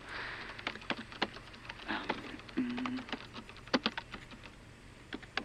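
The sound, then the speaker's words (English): Someone types on a computer keyboard in irregular bursts of crisp clicks, with short pauses between flurries and a brief low hum partway through. Nobody speaks. “You know how to work a keyboard, so you're already better than most of them.”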